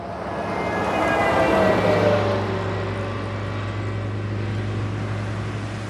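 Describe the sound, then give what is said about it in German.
Heavy trucks roar past on a road under a grey sky, the engine rumble swelling loudly over the first two seconds and then settling into a steady, droning hum with traffic noise and no voices. “Lastwagen blasen mir ihren Fahrtwind ins Gesicht.”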